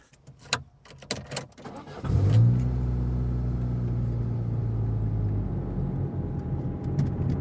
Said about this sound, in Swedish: Och sen åker vi av motorvägen och in på någon skumpig liten landsväg. Och de kommer fram efter en stund, parkerar minibussen och kliver ut på en grusväg.